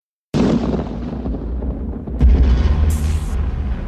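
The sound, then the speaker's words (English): A loud blast of thunder opens a video, cracking in suddenly, then rolling on as a deep, rumbling roar that swells again into a heavier low boom before slowly fading. No voices are heard. “It begins with a blast of thunder.”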